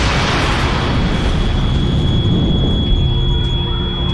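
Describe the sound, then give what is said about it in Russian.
A great thunderous explosion at Vyborg during a Russian assault, a sorcerer-king blowing up his brew of mercury and snakes, rolls out as a loud, sustained roar with a heavy, rumbling low end that churns on for several seconds without easing. No voices are heard. “Но вдруг раздался великий гром.”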